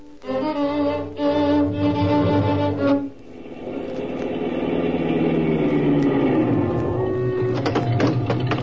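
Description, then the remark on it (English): A car engine is left running while the driver steps out, a loud rhythmic hum that drops in pitch partway through and settles into a lower, smoother idle with a few faint clicks near the end. “Keep that motor running.”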